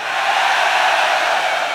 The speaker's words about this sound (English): And this is a fucking heavy metal crowd.